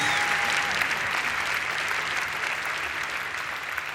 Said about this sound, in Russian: Спасибо огромное, это аплодисменты вам.